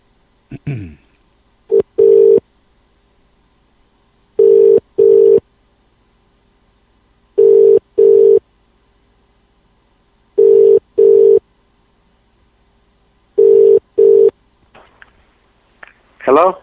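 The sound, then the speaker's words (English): A phone ringback tone repeats five times in steady double pulses, each pair a few seconds apart, clear as the call waits to be answered, with brief voices at the start and end. “Okay, one second, we'll try again.”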